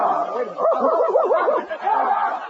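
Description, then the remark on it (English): A dog barks in a quick, continuous run of yapping, wavering barks, loud, lasting a couple of seconds with a short pause near the end. It is from the radio comedy The Life of Riley, starring William Bendix. “Who's been sending this dog to school?”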